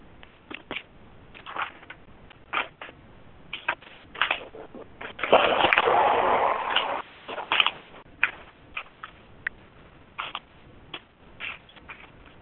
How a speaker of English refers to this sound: I'm looking for a piece of paper.